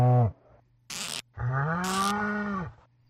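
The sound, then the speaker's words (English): A white cow on a farm moos as a video game sound effect: a short low moo, then a longer drawn-out one, each preceded by a brief hissy burst, with no talking. “Farm entered, animals, best, white, moving to 76. Best, white cow, 87”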